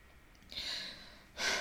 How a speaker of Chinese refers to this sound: 我没哭，吸鼻子。又为你这破事哭。